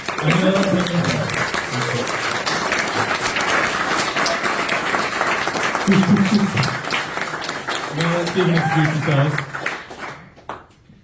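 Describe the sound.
A crowd applauds steadily for about ten seconds, a dense, even wash of clapping, with a few voices calling out and cheering over it before the clapping fades away.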